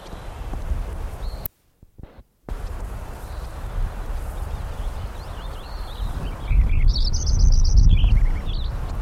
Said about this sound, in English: Lincoln Sparrow number 4 again.